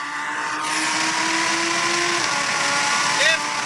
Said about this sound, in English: And the Lamborghini was pretty good. You want to hear what it sounded like? I think I have it here.